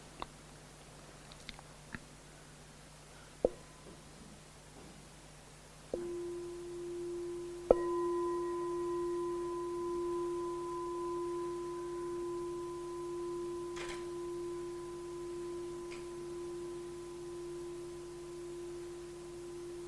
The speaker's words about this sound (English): I'm going to offer a bell.